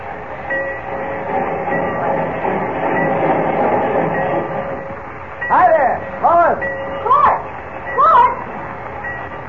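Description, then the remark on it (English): Busy ambience at the Central Railroad Station with a steady train rumble and crowd murmur, followed near the end by four short, rising-and-falling squeals that cut through the din. “told me to meet you down here at the Central Railroad Station.”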